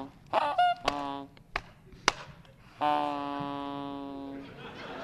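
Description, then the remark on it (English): Geese in a flock honk: a few quick, overlapping honks, then a long drawn-out nasal call, with several sharp knocking taps scattered between them. “That white one with the barred tail, right in the middle of the flock, I say. Kill it and take it with you.”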